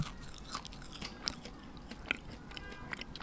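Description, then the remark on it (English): Someone crunches and chews a small, crisp house cricket toasted in a toaster oven, with a series of sharp, dry cracks and crackles scattered over a few seconds of steady, moist mastication. No one speaks. “A house cricket. All right, here I go.”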